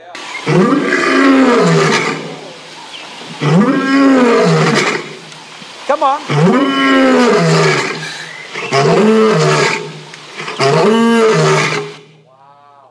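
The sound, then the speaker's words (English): A crowd of voices, told to yell 'lion', imitates a lion, letting out several loud, drawn-out roars in a row with short pauses between them, and a single voice briefly calls out between bursts. “he comes as a roaring lion. Everyone say roaring lion. I want you to yell lion.”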